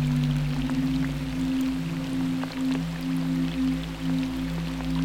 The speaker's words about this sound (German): Denn es beginnt zu regnen. Regen tut dir so gut.